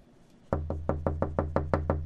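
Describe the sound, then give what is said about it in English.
Someone knocks on a door in a quick, steady run of about nine firm raps, starting after a brief moment of quiet, with no voices. “would you get the door, please?”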